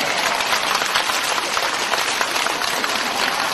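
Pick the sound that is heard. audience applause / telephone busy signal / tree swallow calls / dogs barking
audience applause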